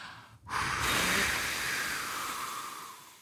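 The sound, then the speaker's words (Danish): After a brief pause comes one long, breathy blow of air, fairly loud, trailing off gradually as someone blows out lit birthday cake candles. No one speaks. “Så er lysene tændt. Og så puster vi på 3, 2, 1.”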